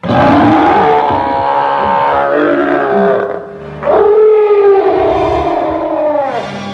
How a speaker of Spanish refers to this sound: Además, detrás de la puerta cerrada había un gorila furioso.